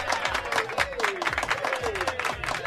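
A crowd applauds steadily for the whole stretch, a dense, even patter of many hands clapping at once, with voices calling out over the noise.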